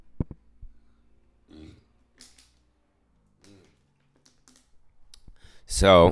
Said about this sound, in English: I gotta burp and drink some water. One sec.